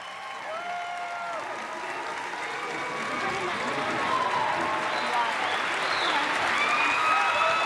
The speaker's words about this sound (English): That applause is not for me, by the way. Of course it is.